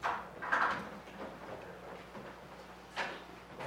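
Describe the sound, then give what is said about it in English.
A door being pulled shut, with a short scrape and handle rattle early on and a softer click as it settles closed a few seconds later. “Would you mind pulling the door shut?”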